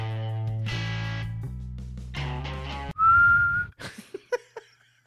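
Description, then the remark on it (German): A single loud, sharp referee whistle blast lasting under a second, blowing full time at a football match after a minute of stoppage time, following a stretch of sustained musical tones and followed by a few short, fading knocks. “Wir sind jetzt schon eine Minute über der Zeit und ich glaube, der Schiedsrichter pfeift ab.”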